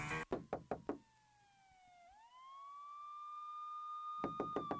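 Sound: knocking on a door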